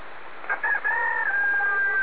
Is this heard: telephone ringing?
no